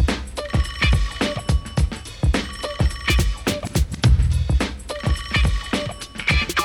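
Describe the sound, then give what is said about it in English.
A car phone rings in repeated bursts, loud, over a steady thumping beat and busy musical backing. No one speaks. “But then I got it, call the car phone.”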